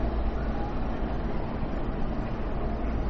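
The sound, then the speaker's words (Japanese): Steady railway station platform ambience at platform 11 of a JR East station: a constant low rumble and broad hiss of trains and machinery, fairly loud and even throughout, with no distinct voices or sharp events standing out. “今度の11番線の列車は16時38分発快速アクティ小田原行きです。”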